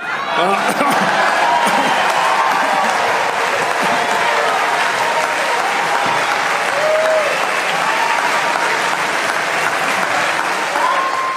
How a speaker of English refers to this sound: That very diverse crowd at CPAC stood up to give a standing ovation to a fascist.